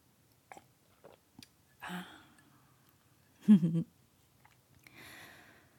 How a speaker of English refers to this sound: I'm just gonna take a sip of my cold mocha here and pretend like there's nothing to see here.